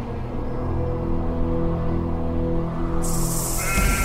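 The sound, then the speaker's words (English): Sheep being herded bleat in a sustained, droning chorus, steady, with a sudden hissing rush of noise breaking in near the end. No one speaks. “A little Bedouin shepherd boy was out with some of his friends herding some sheep and throwing rocks, as boys are wont to do.”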